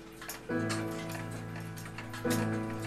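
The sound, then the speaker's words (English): Several clocks in a clock repairer's workshop ticking in a steady, overlapping rhythm, with sustained ringing tones swelling in underneath at two points. No one speaks. “These clocks are your friends.”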